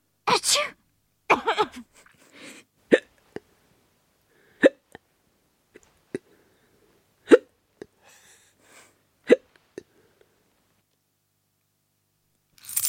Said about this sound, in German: Irgendwie so ein Rascheln von Münzen, Klettern von Münzen. Also genau, die Münzen haben geklappert.